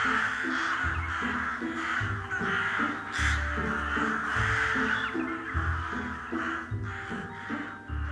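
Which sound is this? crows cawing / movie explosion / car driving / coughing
crows cawing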